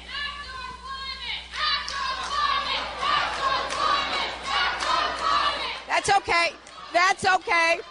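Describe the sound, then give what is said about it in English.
At a Hillary Clinton event in July, college climate activists with 350 New Hampshire heckle. A crowd shouts and heckles in a dense, overlapping roar of raised voices, then breaks into a short rhythmic chant of loud, evenly spaced bursts toward the end. “The chants died down very quickly, and a banner unfurled by student activists was soon obscured as the crowd gave a standing ovation to Clinton.”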